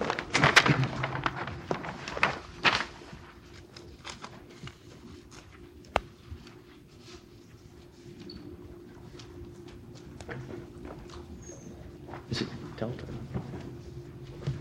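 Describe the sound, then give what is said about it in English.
Papers being shuffled and leafed through as people look up their exhibits, with scattered rustles and crinkles, a few soft thumps and a sharp tap, loudest at the start and again near the end, over a low steady hum. “The usual shuffling of papers when everybody looks up their exhibits.”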